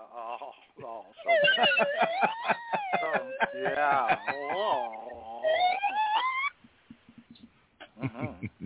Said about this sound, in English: It shows you what a budget you have for sound effects when you have to use a slide whistle.